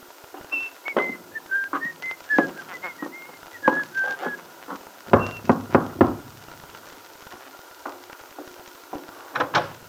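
A person whistles a cheerful, lilting tune while footsteps thud up the shallow wooden steps of a little house in the Wakefield Auto Court, a cluster of heavier thumps in the middle, then a couple of final knocks.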